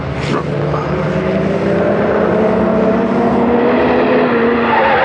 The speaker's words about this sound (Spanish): Desciende por la pronunciada cuesta como un bólido y puede observar que el auto del criminal perseguido va apartándose de la carretera.